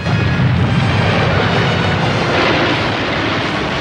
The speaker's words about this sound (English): Another tremor knocks them off their feet as rocks rain down on them.